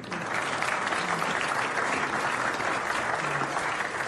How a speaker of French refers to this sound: Mesdames et messieurs, je vous demande d'applaudir notre virtuose du violon